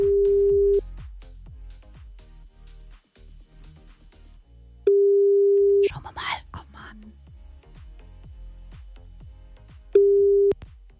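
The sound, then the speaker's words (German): A telephone ringing tone on a call placed live on air by Hitradio Antenne 1 to a listener: three steady, mid-pitched one-second tones spaced about four seconds apart, with quieter murmuring voices and sounds filling the gaps between rings. “Wir klingeln mal gemeinsam durch.”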